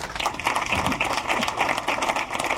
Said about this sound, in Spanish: qué lindo aplauso, muchas gracias. Sí, muy sincero aplauso desde acá, que me alegra.